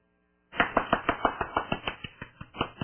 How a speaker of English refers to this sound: The clapping means that your Bible study works.